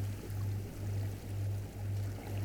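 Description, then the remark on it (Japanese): A steady wash of ocean surf with gentle, rolling swells in loudness, carried over a low continuous rumble. No voices, just the soft, unbroken hiss of water. “まだ波の音が聞こえていることにも気がつきます。”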